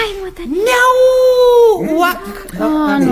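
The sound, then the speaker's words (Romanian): A voice trying to imitate a hen's clucking instead makes a cat's meow: one long, drawn-out, whiny cry that rises, holds, then falls, followed by a shorter wavering bit, fairly loud. “E un miunat de pisică.”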